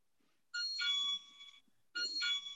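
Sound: bell ringing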